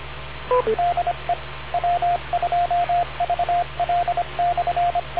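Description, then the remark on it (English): An amateur radio repeater's identification beeps: a string of short and longer mid-pitched tones tapping out a Morse-like pattern for several seconds over steady radio hiss and low hum, with no talking. “Wait for the beep.”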